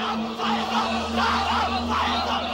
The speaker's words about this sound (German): Sie sind geschwächt, die Hungerstreikenden am Ende. Viele weinen, schwanken zwischen Wut und Verzweiflung. Mörder und Faschisten schreien sie immer wieder.